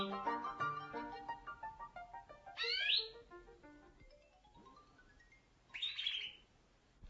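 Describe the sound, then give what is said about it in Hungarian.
An actress imitates a talking parrot with warbling, chattering whistles, broken by two shrill rising squawks, one midway and one near the end, clear with no other talk. “És végül egy beszélő papagáj.”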